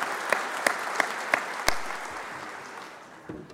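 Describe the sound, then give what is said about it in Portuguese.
A crowd applauds steadily to honour people who contributed to the city of São Bernardo do Campo, a dense wash of clapping with a few sharp, louder claps standing out in a loose rhythm, then slowly thinning out toward the end. “Então, uma salva de palmas a cada um de vocês que ajudaram e contribuíram com a cidade de São Bernardo do Campo.”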